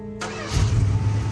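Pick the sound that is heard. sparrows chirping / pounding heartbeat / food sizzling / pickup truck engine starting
pickup truck engine starting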